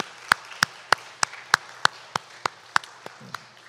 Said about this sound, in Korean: 오늘은 주님께서 이 올랜도에 우리 반석교회 세우신 지 18주년 되는 그러한 주일입니다. 우리 이 시간에 먼저 우리 교회를 세우시고 그간 지키셨으며 또 앞으로도 영원히 인도하실 주님께 우리 박수로 먼저 좀 영광 돌리기를 원합니다. 우리 시간에 박수로 우리 하나님께 영광 돌리기를 원합니다.